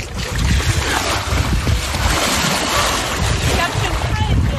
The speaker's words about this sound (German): Wir liegen jetzt am Strand. Genau, komm, wir gehen jetzt eine Runde schwimmen. Ja, genau. Ich mache noch ein ganz klein bisschen Meeresrauschen.